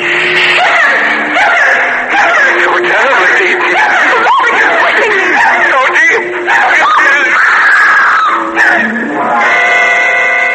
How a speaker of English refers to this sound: Her scream brought me back to reality.